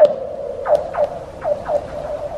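Frozen lake ice in Alaska singing as skipped rocks strike it: about five eerie, descending laser-like chirps in an uneven rhythm over a steady mid-pitched ringing tone, with no voices.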